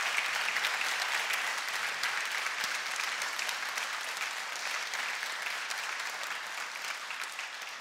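Sustained audience applause for a woman's good work, a dense steady wash of many hands clapping at an even volume throughout, with no voices standing out.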